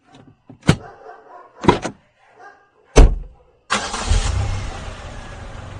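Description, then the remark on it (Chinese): A few sharp thumps like car doors slamming, then a car engine starts up and runs with a steady, loud rumble as the vehicle speeds away, with no voices. “望着绝尘而去的汽车，”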